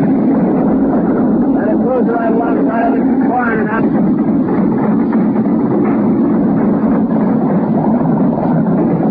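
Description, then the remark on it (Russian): Sailors on a warship shout and cheer in a brief excited burst as anti-aircraft fire hits its target during an air attack near a British convoy, over a loud, steady mechanical roar. Then the cries fade and the constant drone carries on alone. “На записи слышны радостные возгласы моряков.”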